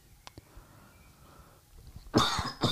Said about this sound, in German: über diese Husten. Ich muss mich einfach nur entschuldigen für das, was hier ins Mikrofon gehustet wird. Aber ist halt so. Besser so als gar keine Folge.